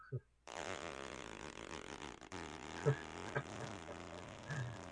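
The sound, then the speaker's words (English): A voice imitates the accelerating engine sound effect of an old toy car racing game in which you dodge other cars: a sustained, buzzy, lip-rattling drone lasting about four seconds, steady in loudness with a few brief pulses near the end. “But like the accelerator, like when you were accelerating, it would go.”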